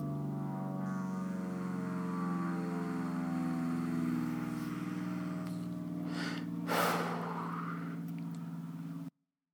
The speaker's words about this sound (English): Fucking airplanes again.